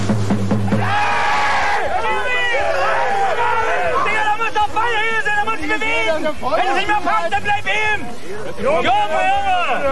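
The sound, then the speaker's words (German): Spectators at a hard-fought amateur district-league (Kreisklasse) football match in which Fortuna Oetsch goes ahead 1:0 through an own goal shout and call out over one another, a loud, continuous tangle of raised voices, with sharp excited cries rising throughout. “Insgesamt war es ein sehr, sehr kampfbetontes Spiel, das merkte man auch an den Zuschauerreaktionen.”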